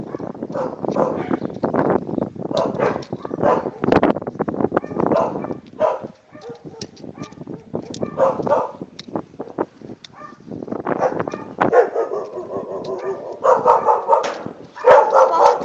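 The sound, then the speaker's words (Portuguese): Several dogs bark repeatedly in irregular bursts, fairly loud, with overlapping yips and some footsteps or clopping sounds mixed in; many dogs at the houses around. “Tem muito cachorro aqui, gente, nas casas”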